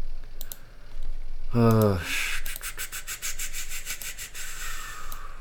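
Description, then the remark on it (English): Rapid typing on a mechanical keyboard: crisp clicky keystrokes in a steady clatter, preceded by a few scattered taps and a short voiced sound. “You guys don't have mechanical keyboards?”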